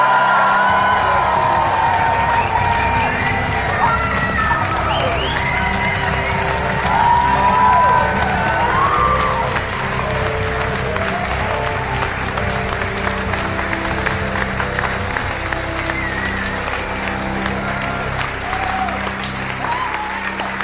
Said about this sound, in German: Einen riesigen Applaus an uns alle.